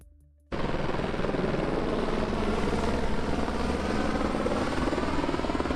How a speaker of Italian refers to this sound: Al momento le fiamme sono state spente e 5 elicotteri piccoli e un Super Puma stanno scaricando acqua su tutta la superficie di circa 4 km quadrati.